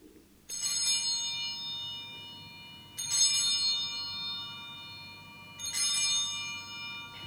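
A church bell rings out in three slow, evenly spaced strokes, each bright metallic clang swelling and then lingering as it fades over a low background hum, with no voices.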